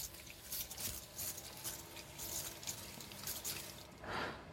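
A spray bottle squirts fine water mist in a series of short, hissing bursts at an uneven pace, fairly quiet, with no voices.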